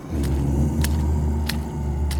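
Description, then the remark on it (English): Four slow, squelchy footsteps of a bog zombie land at an even pace over a continuous low, groaning rumble of moans, giving a creepy, mushy trudge with no talking. “It sounds like creepy, mushy footsteps and moans.”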